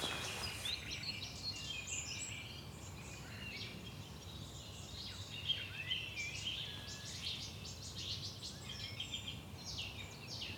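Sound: thrush nightingale song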